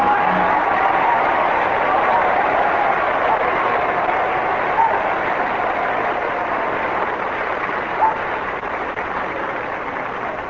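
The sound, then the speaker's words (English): Sustained audience applause on a talent program, measured by an applause indicator to pick the night's winner: a dense, steady wash of clapping that holds an even loudness for about ten seconds, with a muffled, band-limited tone and no voices over it. “The applause indicator shows the winner tonight on this program is Johnny Duggan.”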